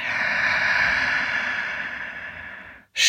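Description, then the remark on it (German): A long, steady breath pushed out through the mouth, fairly loud, slowly fading over a few seconds before a brief pause and the start of another breath. “Durch den Mund atmen.”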